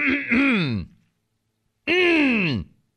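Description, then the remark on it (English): Someone clears their throat twice, fairly loud: two voiced, descending grunts about a second apart, separated by a brief silence, with no talking. “this is me clearing my throat.”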